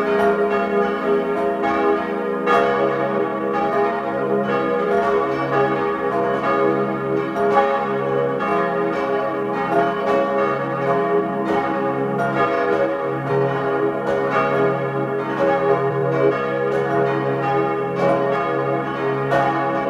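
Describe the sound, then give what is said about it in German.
The bells of the parish church of Mariä Geburt in Mieders, in Tyrol's Stubai Valley, peal together at 12 noon in a full, continuous ringing, dense overlapping strikes with long humming resonance, loud, with no voices. “Sie hören die Glocken der Pfarrkirche Mariä Geburt in Mides im Tiroler Stubaital.”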